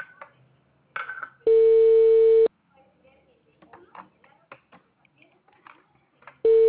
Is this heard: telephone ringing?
yes